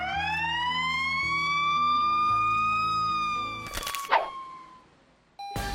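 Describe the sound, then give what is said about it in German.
A loud ambulance siren in Chicago, USA, wails in one long, slowly rising and falling tone over a low engine rumble, broken near the end by short harsh blasts before a steady tone resumes. “Und in Chicago in den USA klingt ein Rettungswagen so.”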